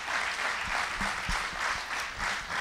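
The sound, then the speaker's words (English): An audience claps hands to give praise to God, a dense, steady roll of many hands applauding together that sounds full and sustained throughout, with no one speaking over it. “Come on and clap your hands and give Him praise.”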